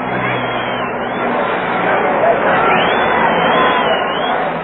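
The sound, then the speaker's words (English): A dense, continuous roar of a huge crowd celebrating in the streets of Central London, thousands of voices blending into a loud, steady wash of cheering and babble with no single speaker standing out, as people dance, wave flags and try to form dancing rings. “And as for the noise of it, well, listen for yourselves to the Central London DJ Roar.”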